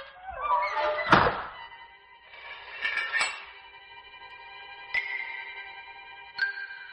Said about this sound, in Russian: Хлопнула кованая дверь, угрожающе звякнул засов.